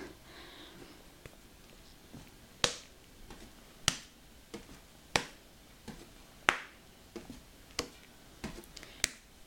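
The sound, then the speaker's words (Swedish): Sharp slapping claps of hands striking knees in a seated chair exercise, lifting alternate knees and clapping each with the opposite hand, landing in a steady rhythm about once every second or so, with softer pats in between and a quiet background hum. “Lyft höger knä och klappa på med vänster hand.”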